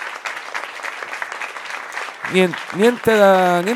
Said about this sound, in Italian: Senti l'applauso, senti. L'applauso non l'ha stimolato. È strano, cioè di solito basta che applaudi e la gente è contenta.